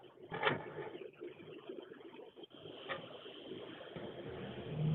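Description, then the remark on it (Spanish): A car engine roars steadily at high speed, the speedometer needle back at 150, blended with dense road and wind noise that stays continuous and fairly loud throughout, with no one talking. “Le pisaste el freno y ya. Y ya le ya va la aguja otra vez en 150.”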